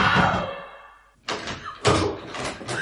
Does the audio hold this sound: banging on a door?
yes